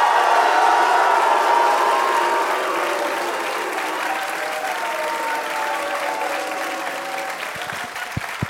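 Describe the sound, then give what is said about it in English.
A crowd bursts into loud, sustained applause with some cheering as a co-host is welcomed, a dense steady wash of clapping that slowly eases in intensity toward the end without any talking over it. “Joining me tonight is my co-host. Please welcome Jason Mantzoukas.”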